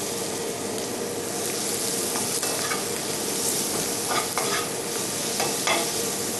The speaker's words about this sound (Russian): Все, чеснок чуть-чуть обжарился. И чуть-чуть лука.